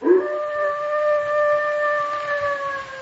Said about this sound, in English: Listen. That sounded like a dog howling.